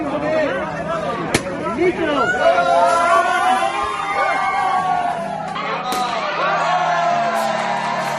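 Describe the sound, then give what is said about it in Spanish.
A crowd at a lottery administration in Las Palmas de Gran Canaria cheers and shouts together, celebrating winning El Gordo, many excited voices overlapping in a loud, continuous roar of whoops, with a couple of sharp bangs cutting through the din. “Así es como festejan el gordo en la administración de lotería, pues que lo ha repartido en Las Palmas de Gran Canaria.”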